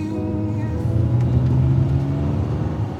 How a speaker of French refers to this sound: De retour vers New York, je suis assise dans la voiture. Al conduit.